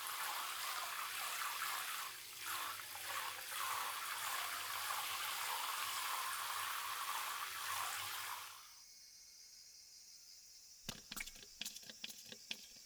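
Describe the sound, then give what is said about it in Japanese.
Water runs steadily for several seconds as hair is wetted, and stops, then wet squishing crackles of shampoo being worked into a foamy lather in the hair come in short bursts near the end. No one speaks. “よく泡立てて、泡はきめ細かい方がいいですから。”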